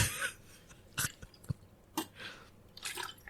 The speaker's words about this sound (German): trinkt Wasser. Oh ja, das mache ich jetzt übrigens auch mal als Demonstration. Moment.